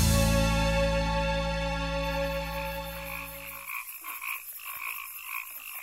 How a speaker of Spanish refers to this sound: ¿Qué fue eso? Tranquilo, muchacho. Son solo grillos.